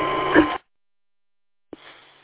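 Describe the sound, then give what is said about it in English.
A steady mechanical hum from a radio's cooling fan, kicked on as the radio gets warm, drones for half a second, cuts off abruptly into silence, then returns more faintly after a short gap with a click. “Yeah, you got a big humming sound in the background, but yes, I can understand you. Yeah, I imagine that the fan on my radio is kicked on.”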